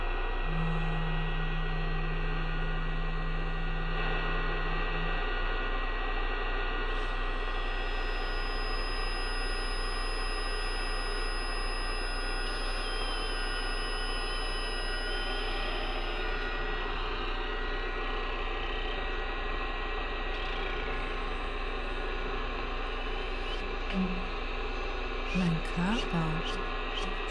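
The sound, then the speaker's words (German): A steady, dense drone of radio static with a deep underlying hum, layered with sustained tones: a low buzzing note early on and thin, high whistles that hold for several seconds. “Die Radiowellen, ein Brummen, ein Summen, ein Grölen, ein Dröhnen, ich las mit Fingerkrüllen, ein Hallen, ihre Stärke, Hallen, Nachhallen, Brummen, Grünen, Brausen, Sausen, Kratzen, Pfeifen.”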